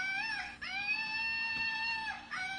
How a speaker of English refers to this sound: And speaking of toys, well, I have to talk about this some other time, but you can all now listen to my flying monkey. Can you? Ah. There we go.